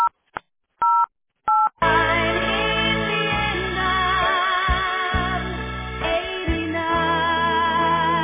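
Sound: touch-tone phone keypad dialing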